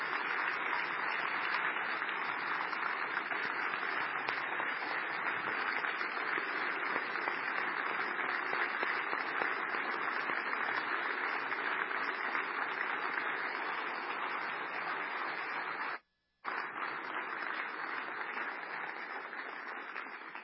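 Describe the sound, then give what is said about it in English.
Sustained audience applause honoring a man for 23 years of faithful service, a dense steady wash of many hands clapping at an even loudness for about sixteen seconds, breaking off abruptly for a moment before the clapping resumes. “And I think it's appropriate to give him a hand of applause for that time.”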